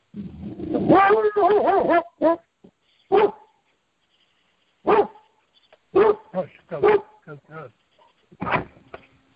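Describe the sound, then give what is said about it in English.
A dog barks in the background repeatedly in short, sharp, irregular bursts, opening with a longer stretch of rapid, whining barks and then single barks spaced out over several seconds, moderately loud. “I guess we got Bigfoot barking in the background.”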